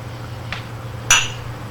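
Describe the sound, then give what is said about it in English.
Two thick, white china mugs clink together in a toast: a soft knock, then one bright, ringing chime that fades quickly over a low steady hum, with no voices. “They sip from the thick, white china mugs.”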